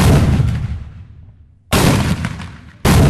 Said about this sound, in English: The sounds of cannons and muskets near the mouth of Mobile Bay are just ceremonial. It's all part of the show modern-day reenactors do for visitors at Fort Gaines.